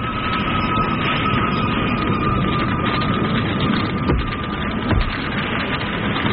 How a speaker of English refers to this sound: New York, 1934. Sirens race through the night to a warehouse blaze on the Lower East Side.